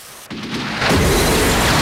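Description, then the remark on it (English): A smoke grenade is loaded into a gun and fired at police officers with a sudden burst, then a loud, steady rushing hiss with deep rumble continues to the end. No one speaks. “He shoots one in the leg and another, then Angie loads a smoke grenade and fires at them.”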